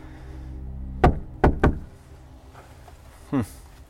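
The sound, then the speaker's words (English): Three sharp, loud knocks on the front door of a house with snow on the ground outside: one rap, a short pause, then two quick ones, followed by quiet over a low background hum and a brief rustling sound; no one answers. “Doesn't seem to be answering the door.”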